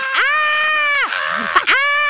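people screaming

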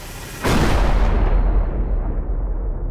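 explosion boom

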